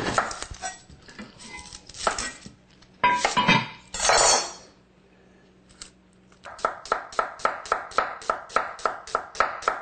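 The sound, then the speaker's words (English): A knife slices an onion on a cutting board, a steady run of about a dozen quick, crisp chops following some earlier irregular clatter and clinks, with no talking. “And I'm going to slice up an onion here.”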